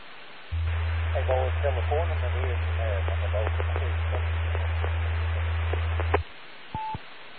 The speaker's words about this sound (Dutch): Nou, dat is heel, heel zacht. Echt, ja, modulatie is vreselijk zacht en in de ruis.